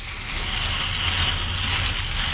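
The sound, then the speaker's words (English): Water runs steadily as shampoo is rinsed out of his hair again after a first shampoo, a continuous hissing spray at an even level with a faint low rumble beneath, crackling a little like eggs frying. “Now he's rinsing again. That's what I like to hear. Almost sounds like frying eggs.”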